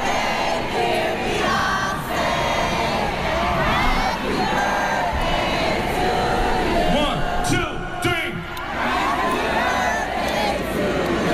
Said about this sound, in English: we told you it was … birthday yesterday, and she was at Made in America. And that actually went down Sunday night, I guess, at midnight was her birthday, Made in America. And here is the crowd actually singing Happy Birthday.